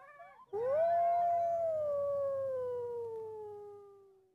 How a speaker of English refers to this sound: There were wolves nearby, and they were howling loudly. But suddenly, the howling stopped.